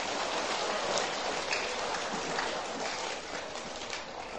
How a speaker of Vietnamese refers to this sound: Nếu giải tỏa các xung đột và mâu thuẫn là một đức tính tốt mà mỗi người đều có thể làm được, các cháu hãy dành một tràng vỗ tay thật lớn để cam kết.